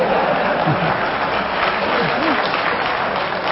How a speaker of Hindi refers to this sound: आपने ताली बजा रहे हैं अभी। मेरा भ्रम तो नहीं था कि सर सुन रहे हैं।